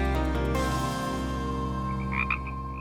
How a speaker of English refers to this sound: In the evenings, Science Update listener Wayne DuPont in California has been hearing these sounds, which he presumes are frogs. However, during the day, we never see them.